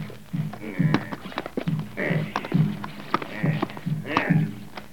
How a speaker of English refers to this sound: hold my horse. The stirrup is ready for your most priceless foot, oh, brave one.